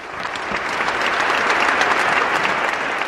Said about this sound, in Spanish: Los aplausos que escuchas duraron alrededor de 5 minutos, mientras el nuevo obispo era saludado por los otros obispos asistentes a la ceremonia.